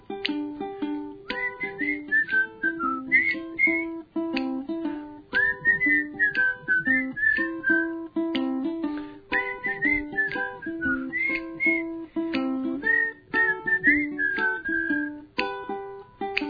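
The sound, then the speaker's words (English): Someone whistles a lilting, wandering tune at a steady, moderate volume, carried over a plucked instrumental accompaniment that keeps a regular rhythm throughout, with no one talking. “When something fell to the ground, now some might say she's been smoking, but really she was just dreaming, whistling at the sky with her gun by her side.”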